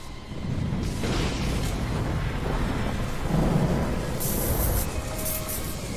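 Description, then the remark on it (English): A deep, rolling rumble of thunder from a lightning strike fills the air, loud and sustained for several seconds, with a hiss like heavy rain underneath and no voices. “To a toad when it's struck by lightning.”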